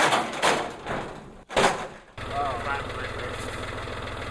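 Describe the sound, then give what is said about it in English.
A very used John Deere tractor engine idles with a steady low rhythmic chugging, entering abruptly after a couple of loud, broad clattering bursts at the start. Inmates use the tractor to plow, till and harvest a garden of more than 2 acres inside the Davis County Detention Center jail in Owensboro. “A very used John Deere tractor to plow, till, and harvest their more than 2-acre garden inside the jail walls.”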